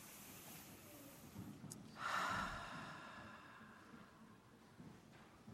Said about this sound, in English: When we feel that kind of tension, what can we do to feel better? Meditation and just plain breathing. So let's do that for a few minutes. Let's just breathe.